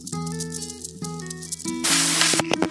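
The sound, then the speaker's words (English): A steady mechanical whine and hum from a center pivot irrigation system, with a hissy wash of water behind it as its pipes fill with water, then a loud burst of spraying water rushes in near the end as the sprinklers come on, spraying wide. “It's coming towards us and it's spraying a lot wider than I anticipated.”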